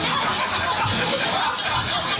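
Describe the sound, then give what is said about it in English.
A car engine starting up, producing a loud, steady, hissing rumble that holds without pause for a couple of seconds, with no clear break or sputter. “You want to start the car?”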